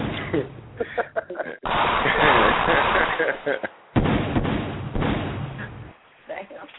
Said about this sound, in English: Damn. Be some gunshots going off up in this motherfucker.